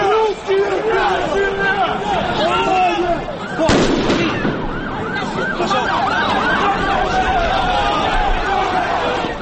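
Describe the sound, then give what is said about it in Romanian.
A sharp firecracker blast bursts out midway through a loud, chaotic street scene of clashes between young Russian fans and Poles, with firecrackers and smoke bombs exploding underfoot, shouting crowds and shrill, wavering siren-like whistles running throughout. “Câteva zeci de tineri de ambele părți s-au luat la bătaie cu petarde și fumigene explodându-le sub picioare.”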